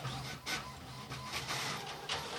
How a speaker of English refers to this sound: No, hang on. Is that a dot matrix?